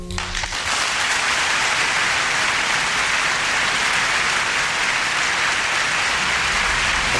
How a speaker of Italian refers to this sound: L'applauso è tutto per voi, naturalmente.